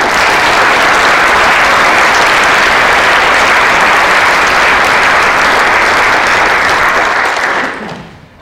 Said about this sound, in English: So, I know you guys have already tapped in once, but can we have another round of applause for me?